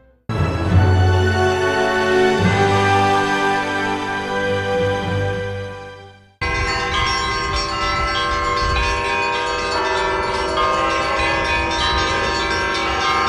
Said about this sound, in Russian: Каким образом заключенные смогли позвонить в колокола?